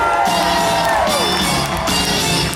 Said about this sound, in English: It's All-Star Weekend in Houston. Let's turn it up. Somebody scream.